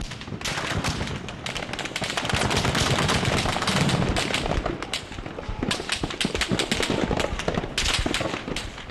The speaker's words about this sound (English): A man ran up warning that these weren't rubber bullets, but live ammunition fired by the Bahrain Defense Forces, or BDF, on its own citizens.